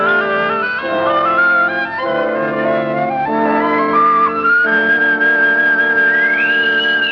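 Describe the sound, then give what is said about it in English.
A bosun's whistle pipes a party aboard ship with a shrill, wavering call that swoops up and falls away near the end, heard over a steady backdrop of sustained tones, with no one speaking. “A bosun's whistle. They're piping us aboard.”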